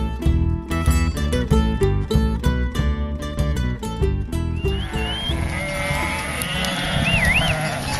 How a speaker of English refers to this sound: This is On Point, the sound here of a shepherd moving about 2,000 head of sheep to a meadow in the hills of Peru